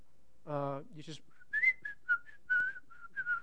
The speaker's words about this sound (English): And the other thing is this, they're always singing. They're always whistling.